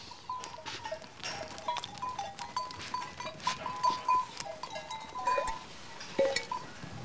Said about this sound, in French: Florence est en train de procéder aux soins des brebis qu'elle a regroupées donc dans le cortal